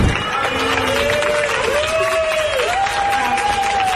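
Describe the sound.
A crowd of neighbours applauds and cheers loudly and steadily for the full stretch as a young Sporting de Gijón player gets out of the car with his father on arriving home. A sustained, wavering whistle-like tone rises above the dense clapping, with scattered voices mixed in.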